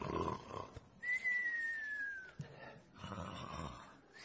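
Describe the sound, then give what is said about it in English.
A voice imitates snoring: rough, rasping snore breaths, then a long, gently falling whistle, followed by another drawn-out, breathy snore. “I see you snoring.”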